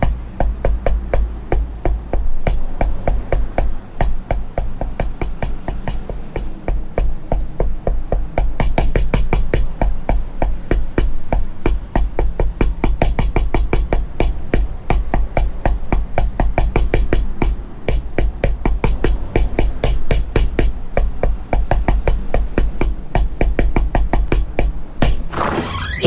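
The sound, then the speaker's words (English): A long run of sharp, evenly spaced knocks on the door of an address on Nudgee Road, knocking 100 times, pounding steadily and loudly for about twenty-five seconds with no voices, the pace barely changing throughout. “Anyway, go to this address on Nudgee Road, knock 100 times and ask for Tommy Bishop.”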